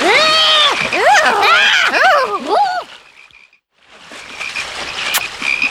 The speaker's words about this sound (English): Oh, no! Look! Now there are lots of frogs!